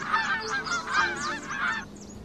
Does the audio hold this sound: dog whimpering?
no